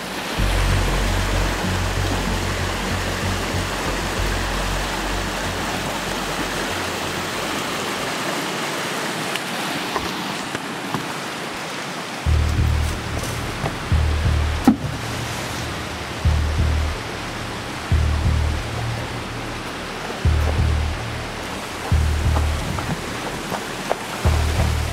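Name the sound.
rushing river water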